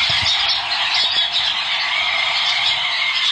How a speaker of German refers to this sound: Das ist eine flatternde Zugtür von der S25 von Zürich auf Glaris. Der Gummi, weisst du, der bei der Tür ist nicht mehr ganz dicht gewesen und darum hat sie so wunderbar getönt